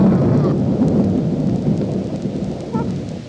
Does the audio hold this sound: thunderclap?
yes